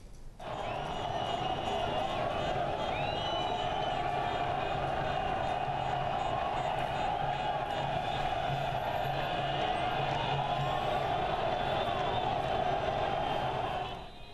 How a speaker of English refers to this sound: Palestinians chanted victory slogans, shouting the resistance has triumphed. They took to the streets of Gaza after the ceasefire started at 1900 GMT on Wednesday.